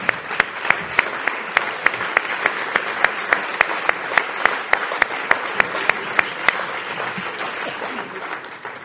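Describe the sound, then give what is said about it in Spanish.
An audience applauds steadily for Spanish sculptor Julio López Hernández at a medal ceremony, a dense wash of many hands clapping with a few sharp individual claps standing out, sustained for several seconds before thinning slightly at the end. “La medalla que ha recibido, que le ha entregado el príncipe, es una medalla modelada por Julio López Hernández, sin duda la primera figura de la escultura española, que si está por ahí, que se levante y le aplaudimos.”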